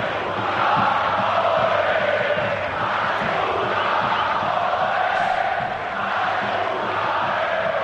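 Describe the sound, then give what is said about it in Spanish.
A large stadium crowd of FC Barcelona fans at Montjuïc chants "A Segunda" in unison at Almería, a loud, steady roar of many voices with a slow rhythmic swell throughout, no single voice standing out. “Los cánticos de A Segunda a la Almería.”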